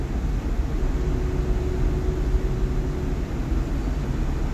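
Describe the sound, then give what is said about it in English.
A big American GMC truck engine idles with a loud, deep rumble from its big muffler, steady throughout, with a faint tonal hum riding over the low drone and no voices. “It's a big truck.”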